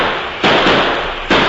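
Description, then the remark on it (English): Two sudden, loud explosive blasts, each bursting in sharply and trailing into a rough, crackling rumble, with no voices present: train robbers blasting open the door of a train's express car. “Train robbers blasted open the express car when the Overland stopped here.”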